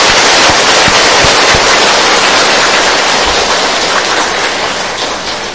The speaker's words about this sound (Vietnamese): Xin quý vị tán thưởng chung một tràng pháo tay nhiệt liệt.